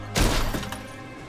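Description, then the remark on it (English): A car speeding wildly crashes into a parked car: a sudden loud impact with glass shattering, a heavy thud followed by tinkling debris that quickly fades, alone without talking. “He crashes into a parked car, then gets out of his own.”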